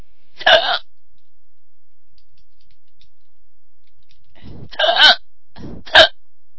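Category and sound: human body sound, hiccups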